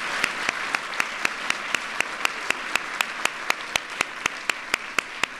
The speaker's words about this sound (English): You all are amazing. And you should give yourselves a round of applause.